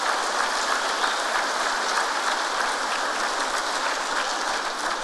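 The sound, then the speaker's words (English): A crowd in a church applauds steadily for several seconds in gratitude for the church's decoration at an evening celebration, a dense, even wash of many hands clapping at a constant loudness with no voices breaking through. “Let's give a big round of applause for us.”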